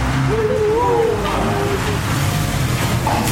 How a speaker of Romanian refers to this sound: Transmitem chiar din fața palatului domnitorului, unde iată, chiar acum trece mașina domnitorului. Domnitorul e dus la spital.